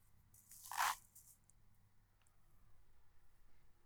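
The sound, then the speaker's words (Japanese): A short burst of crisp crinkling as aluminum foil is spread out peaks briefly near the start and then fades into faint rustling against a quiet background. “ガサガサ言ってごめんね。”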